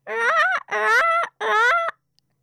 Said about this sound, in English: That's right, I'm a peacock.